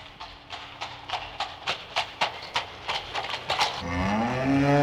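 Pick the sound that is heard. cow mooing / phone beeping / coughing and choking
cow mooing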